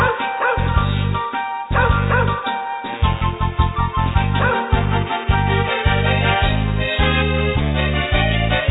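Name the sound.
dogs barking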